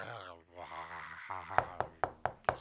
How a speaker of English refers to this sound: A knock at the door? What kind of zombie knocks?